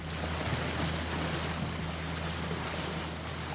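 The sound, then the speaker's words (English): Steady, loud rush of wind and water out on the Columbia River, with a low continuous hum beneath, as dozens of moth sailboats race across the water in one of the races of the Moth World Championships at Cascade Locks; no voices. “Out on the Columbia River, dozens of moth sailboats flutter across the water.”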